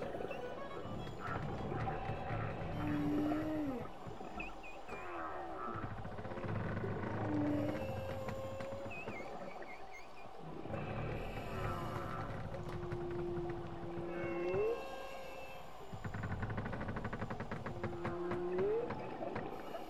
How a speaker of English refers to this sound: Through the ship's hull, we can hear the moaning song of whales around us in the deep.